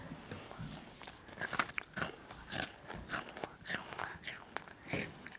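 Close-up crunching of a crisp coconut and cricket shortbread biscuit being eaten, with repeated bites and chews in an irregular rhythm, loud and near the microphone, with a little faint breathy murmuring in the background.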